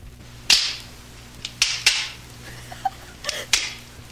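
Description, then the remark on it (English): Kindling sticks snapped by hand into the proper lengths while laying a fire in a fireplace, about five sharp, dry cracks at irregular intervals with a few smaller clicks between, over a low steady hum and no voices. “Then I put in the kindling, breaking the sticks into the proper lengths.”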